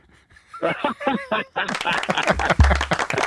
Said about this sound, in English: I'm going to give you a round of applause, all right?